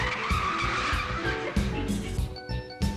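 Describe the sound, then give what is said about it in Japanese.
Car tires skid and squeal loudly over a rumbling engine, with sharp screeching bursts and rising whines across about three seconds. “車の運転はいまいちだが、これからを信望されている若手である。”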